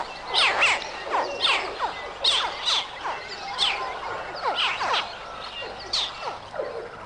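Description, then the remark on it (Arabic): Baby crocodile hatchlings calling to alert their mother, in a steady series of sharp, high, downward-sweeping chirps, roughly two per second, fairly loud over a soft background hiss, with no voices. “ينبه صراخ الصغار الأم، ها هي جاهزة لتكون جسراً في النهر إن لم تنفك توقعه.”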